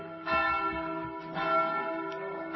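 Church bells ring their evening toll with rich sustained overtones, strikes recurring every second or so and overlapping into a continuous resonant toll, moderately loud with no voices.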